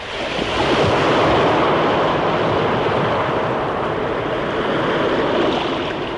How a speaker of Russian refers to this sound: Когда же все перешли на другую сторону, священники тоже вышли на противоположный берег. Как только они сделали это, вода вновь хлынула с огромной силой и все скрыла под собой.